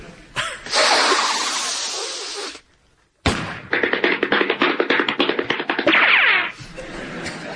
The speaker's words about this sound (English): Well, it's the sniffing at the beginning that gives it away. Is it the disgraced athlete Ben Johnson coming out of retirement to reclaim the land speed record?